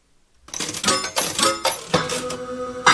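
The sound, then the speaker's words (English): A slot machine pays out with a steady clatter of coins spilling into a metal tray, bright metallic clinks tumbling over one another continuously after a brief silent start. “Loop slot machine. I win!”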